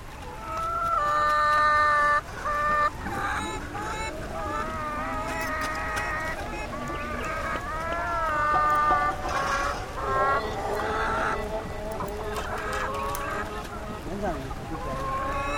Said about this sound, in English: Their cargo consisted of chickens in stacked cages, and the chickens were making the most unearthly, unchicken-like mewling sounds.